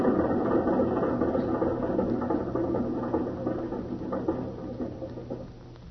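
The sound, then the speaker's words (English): A helicopter setting down at flat-topped Mayan pyramids, its rotors beating in a dense, rattling mechanical clatter over a steady low engine drone that slowly softens toward the end. No one speaks. “The Mayans didn't know it, but when they built these pyramids flat top, they were getting ready for the helicopters.”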